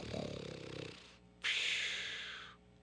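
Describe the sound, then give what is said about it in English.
A single loud snore from a rhinoceros taking a nap in the grasslands: a deep, rattling rumble on the inhale, a brief pause, then a long airy hiss on the exhale, alone with no talking. “There she found Rhinoceros taking a nap. Rhino was snoring.”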